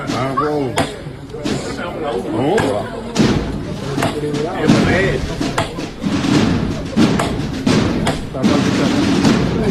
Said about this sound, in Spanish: Y lo hacen así, con 12 golpes, imitando pues esas 12 campanadas, pero con 12 sonidos de llamador